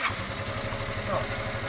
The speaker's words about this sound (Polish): I teraz tak, mamy po prawej stronie taki przycisk. Jest to przycisk do odpalania skutera.